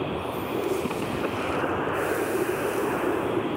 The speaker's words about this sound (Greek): Όσο ακούμε τον ήχο λοιπόν από το ελικόπτερο που ετοιμάζεται να απογειωθεί, γίνονται όλες οι ετοιμασίες όπως αντιλαμβανόμαστε και ακούμε, κυρίες και κύριοι